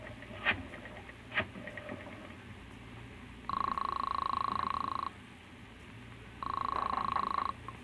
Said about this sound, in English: And now our hero staggers to his feet and heads for the phone. Then, with none too certain fingers, he dials the police.